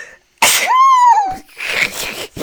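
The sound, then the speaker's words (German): A loud sneeze: a sharp burst sliding into a drawn-out voiced "choo," followed by breathy, noisy exhaling and a short snort at the end. “Und da hatte ich, warte, ich muss niesen.”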